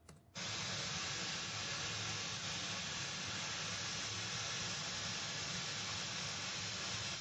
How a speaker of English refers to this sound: This unpleasant noise is called white noise because it covers evenly all frequencies, which we can hear from 20 to 20,000 hertz. It is mathematical abstraction.